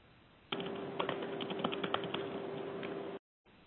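Rapid, irregular clicks of typing on a computer keyboard, close and fairly loud, running steadily for a few seconds over a faint steady hum, then cutting off abruptly.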